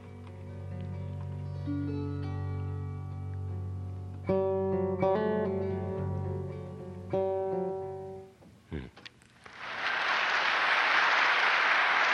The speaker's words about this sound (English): I think I hear you clapping.